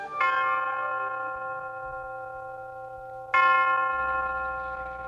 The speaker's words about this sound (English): The University of Detroit Tower chimes ring in another session of Ask the Professor, the radio program in which you match wits with University of Detroit professors in an unrehearsed session of questions and answers.